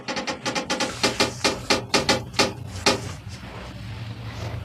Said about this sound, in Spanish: A eso de las 12:40 de la noche, se escucha un crujido en el cuarto.